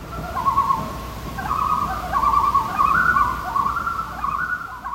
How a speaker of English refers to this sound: Frankie in Minnesota sent us some loons from the cabin where he grew up.